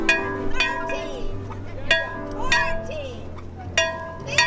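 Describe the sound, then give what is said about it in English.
An old bell on the beach at Passagrill, St. Pete Beach, rung by volunteers at sunset, is struck four times at an uneven pace, each clang leaving a bright, lingering metallic ring, while a gathered crowd of adults and children chatters underneath. “Here, hundreds gather on the beach and near an old bell that volunteers ring every day as the sun disappears on the horizon.”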